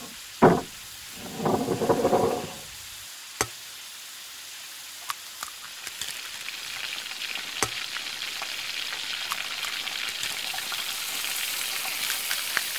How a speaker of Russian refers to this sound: Отрезай кусочек сливочного масла и клади его на сковородку. А потом, когда масло растопится, разбей на сковородку два яйца.